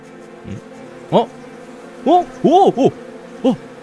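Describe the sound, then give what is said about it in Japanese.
A steady, low buzzing drone of bees around a hive runs throughout, while several short, rising-and-falling vocal sounds, like brief grunts or exclamations, pop up over it. “あれやっば、蜂の巣じゃないの。”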